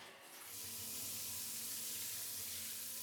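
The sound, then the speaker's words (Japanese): A steady rush of running shower water being used to rinse someone, broad and hissing, swelling in over the first half second and then pouring continuously at an even level with no voices. “さ、またシャワーしますので目閉じてください。”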